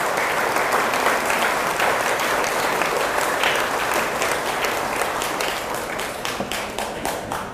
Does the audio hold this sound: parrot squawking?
no